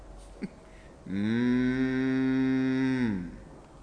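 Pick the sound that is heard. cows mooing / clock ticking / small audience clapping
cows mooing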